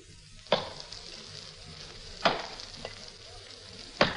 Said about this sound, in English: There was no sign of life about, but from the back of the house came the sound of somebody chopping wood.